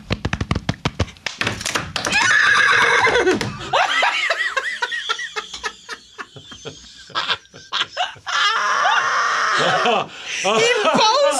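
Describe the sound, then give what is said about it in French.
A woman, a researcher, imitates a horse crossing a bridge with a quick series of clicking, clopping mouth sounds, followed by bursts of laughter and excited voices. “Fait que là, ça, c'est le cheval. Il passe sur un pont.”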